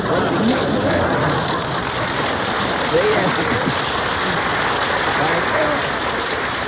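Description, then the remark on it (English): A studio audience claps steadily and continuously for several seconds, a dense, even wash of applause with faint voices mixed in underneath. “It says applause in here.”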